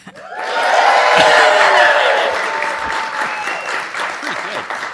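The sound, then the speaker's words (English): A live studio audience at a roundtable panel at the Linda on Central Avenue in Albany, New York bursts into loud, sustained applause and cheering, with whoops and shouts rising over dense clapping for about five seconds before easing slightly while staying strong. “And this is where we tell you that we are before a live studio audience today. And to tell you that, they're all going to cheer wildly.”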